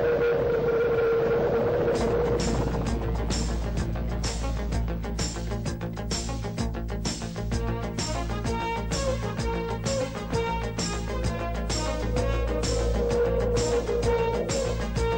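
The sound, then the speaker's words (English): A synthesized helicopter engine sound effect from the Airwolf intro: a steady low droning hum with a sustained tone, cut by evenly spaced thumping pulses like rotor blades chopping the air, loud and continuous with no voices. “But maybe the helicopter or helicopter engine.”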